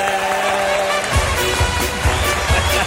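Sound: audience applause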